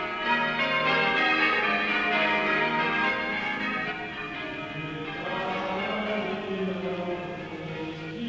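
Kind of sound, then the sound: signal or alarm, church bells ringing joyfully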